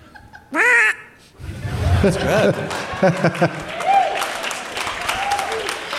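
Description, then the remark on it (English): A person makes one loud, nasal quack in imitation of a duck, followed by a burst of laughter and noisy background commotion from several people. “I can do a duck.”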